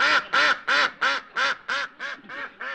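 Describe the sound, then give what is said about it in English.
A duck quacks nine times in a quick, steady run of loud, nasal calls, evenly spaced, with no other sounds around it. “I'm not playing with any dumb duck.”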